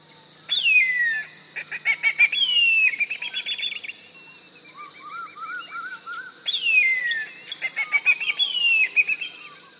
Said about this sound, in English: That's when I heard its call. Then I knew it was a whistling kite. I've got a recording here of a whistling kite. Let's have a listen to what it sounds like.